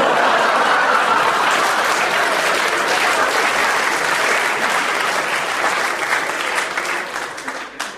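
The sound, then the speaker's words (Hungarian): Dense audience applause, a steady wash of many hands clapping at full strength for several seconds, then thinning and tapering off near the end. “Hát, nagyon taps is lehetett volna.”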